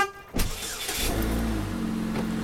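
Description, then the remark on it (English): A car engine starts up and settles into a steady rumble as a woman and her husband drive to Gilroy early in the morning, with low droning tones sustained throughout and no voices. “And driving with her husband to Gilroy.”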